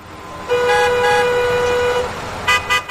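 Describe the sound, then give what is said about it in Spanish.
A car horn in city traffic blares in one long, steady honk lasting over a second, followed by a couple of short, sharp toots, with a low hum of road traffic underneath and no voices. “También del tráfico de las ciudades.”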